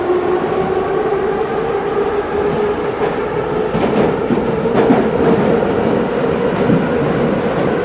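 A steady, loud rumble of a metro train in motion, with door signs in Russian, heard from inside the car during a one-stop ride, with a sustained mid-pitched whine and rattling, faint clacking from the wheels throughout; no one speaks.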